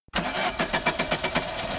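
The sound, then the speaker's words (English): A car engine starts up, cranking with a rapid, rhythmic chugging that settles into a steady rumble. It is loud and clear, with no voices. “The car starts.”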